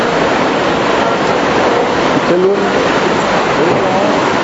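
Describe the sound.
Heavy rain pours at a church in a steady, unbroken roar of dense hiss, with faint voices murmuring underneath as people outside in the rain are told to bring their chairs inside.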